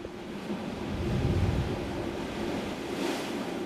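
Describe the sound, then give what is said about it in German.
Sea waves force air out of a blowhole, a shaft leading into the sea at the westernmost point of the Muschelbucht below the Montiguel villa district, in a deep, rushing surge, with a low rumble swelling midway and a breathy hiss near the end. The sound is steady, with no voices. “Das ist ein Schacht, der ins Meer geht und die Wellen drücken die Luft raus.”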